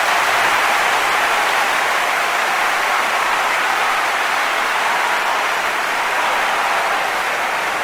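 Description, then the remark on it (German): A played applause sound effect: dense, unbroken applause from a large crowd roars at a steady, loud level for about eight seconds, with no voices over it. “Und ja, das hier ist nochmal dein fetter Applaus, der ist nur für dich.”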